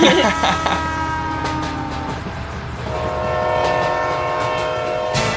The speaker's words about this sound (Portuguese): Aí, gente, tem barulho de trem, vocês desculpem. Não se preocupa. Relaxa. Desculpa porque na hora que... É porque eu moro do lado da estação de trem.